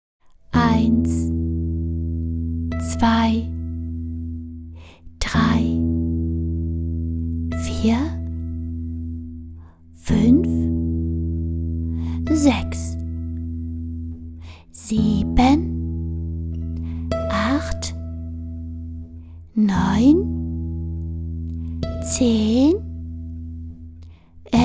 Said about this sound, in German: Die Kirchturmuhr aus dem Dorf schlug 12.